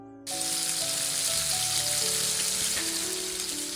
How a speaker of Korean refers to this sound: 세로로 길게 자른 바나나를 프라이팬에 굽는다.